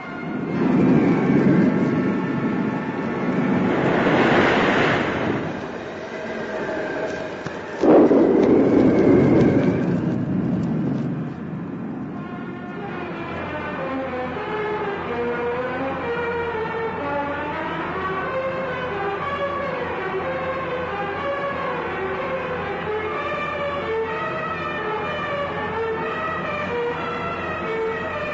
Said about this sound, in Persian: طوفان هر لحظه قویتر و شدیدتر میشه. خیال نمی کنم کشتی بتونه در برابر طوفان مقاومت کنه. همه کارگرای کشتی با همه قدرتشون کوشش میکنن، ولی قدرت امواج مثل این که خیلی بیشتره.